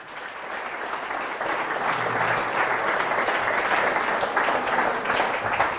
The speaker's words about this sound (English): Good afternoon. I just love it when people clap before they've heard me speak.